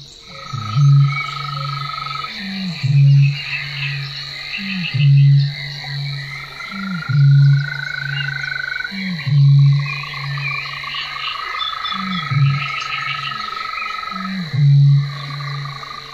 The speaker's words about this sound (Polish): Bąk zazwyczaj wydaje swe westchnienia w odstępach dwusekundowych. Powtarza je od 3 do 5 razy, a następnie milknie na dłuższą chwilę. Każda zwrotka rozpoczyna się od serii cichych, krótkich, przytłumionych stęknięć.